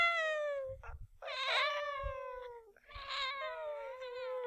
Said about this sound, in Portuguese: Três gatos pretos.